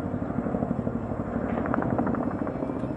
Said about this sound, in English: Just over 5 weeks after President Biden insisted it would never happen, helicopters were evacuating staff from the U.S. embassy in Kabul, and President Biden was preparing to address the nation.